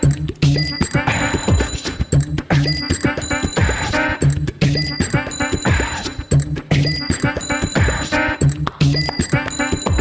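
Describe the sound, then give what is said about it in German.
Bicycle bells, recorded and looped with a loop machine while moving through Berlin, ring in a repeating loop, bright metallic dings recurring in a steady rhythmic pattern over a dense, busy backdrop with percussive thumps and a faint murmur of voices. “Ja, da hört man Fahrrad klingeln und was weiß ich, was man da alles hört.”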